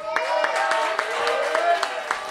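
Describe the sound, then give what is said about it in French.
An audience applauds the teams that reached the team final, including Nantes, Paname, Épinay and Lyon: scattered, irregular hand claps ring out over a steady hum of voices and cheering, the applause moderately loud and continuous through the moment. “Déjà, on peut applaudir les équipes qui étaient en finale par équipe.”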